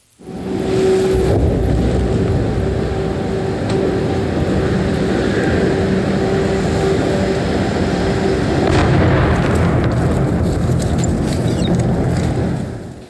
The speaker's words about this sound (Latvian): Jā, un jāpiebilst, ka tas ilga, patiešām ilgi vairākas stundas, ik pa brīdim ir dzirdami šeit tālāk un tuvāk šie šāvieni, tā ka bija ļoti nemierīgi un ļoti trauksmaini,